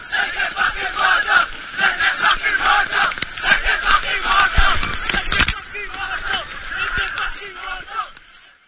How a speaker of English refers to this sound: 21 days on a journey from the source of the Great Fish River in the Karoo to its mouth on the Indian Ocean, where the children will chant and then chant some more as they dive through the waves of the sea, like in this audio from 2016.